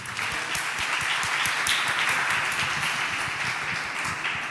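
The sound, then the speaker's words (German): An audience applauds the VOG steadily, many hands clapping in a dense, continuous wash of sharp claps at a fairly loud, even level, with no voices standing out. “Ein Applaus für das VOG, die sind auch gekommen.”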